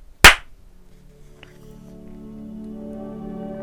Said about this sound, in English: All right, so here we go with the clap.